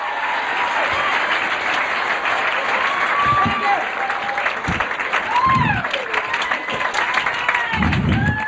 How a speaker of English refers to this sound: How about a big round of applause from Tahoe, where he's been working quite a bit. Comic magician extraordinaire, Larry Wilson, right here, Larry Wilson.